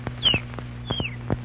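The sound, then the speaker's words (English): A canary named Chirpo gives two short, descending chirps about half a second apart, answering what time it is, fairly clear, mixed with a few soft tapping knocks and no talking. “It's not just an ordinary canary.”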